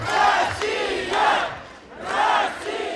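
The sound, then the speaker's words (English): A large crowd of separatists and their supporters in a region of Ukraine chants "Russia, Russia" in unison, the loud rhythmic shout rising and falling about once a second, with a steady roar of voices filling the gaps. “They chant Russia, Russia, making it clear whose side they are on in the new confrontation between the U.S.”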